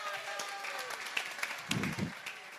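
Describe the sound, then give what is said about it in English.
An audience claps in a steady, dense patter of many hands at moderate volume, with a couple of brief low, muffled bumps toward the end as the clapping carries on. “Give him a clap.”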